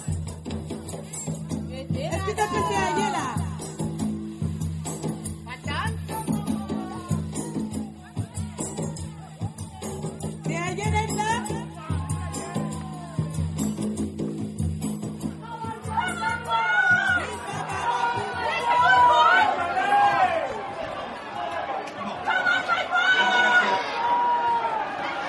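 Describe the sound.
Dense crowd chatter at the Champ de Mars horse racecourse in Port-Louis, Mauritius, on a Sunday, many overlapping voices forming a steady murmur, with livelier, louder calls and excited voices rising over the din in the later part.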